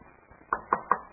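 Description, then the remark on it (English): Three quick, evenly spaced knocks, like a wooden chair being bumped or shifted, moderately loud over a quiet background. “خلاص, leave the chair alone.”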